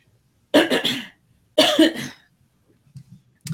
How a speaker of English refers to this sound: I'm going to have to cough. I'm sorry.